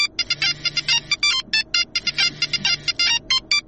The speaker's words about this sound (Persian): صبر کن که من تلفن جواب بدم.